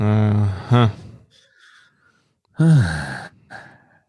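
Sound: heavy huffing breaths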